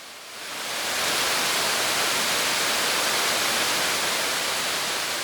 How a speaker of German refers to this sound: Ganz schön laut hier. Unser gemeinsamer Spaziergang endet nun. Das Wasserrauschen des Weeres übernimmt jetzt die Regie.